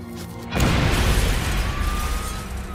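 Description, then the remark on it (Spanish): After a brief quiet moment, a mail bomb in a padded envelope explodes suddenly and loudly as it is opened at a kitchen table on June 22, 1993, followed by a heavy, rumbling roar with crackling debris that lingers without fading much. “La explosión hirió de gravedad al doctor Epstein.”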